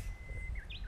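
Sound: japanese bush warbler singing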